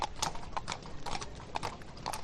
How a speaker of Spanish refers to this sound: Ahí estamos escuchando precisamente el sonido de los caballos, de ese coche de caballos que está llevando los restos mortales de la cantante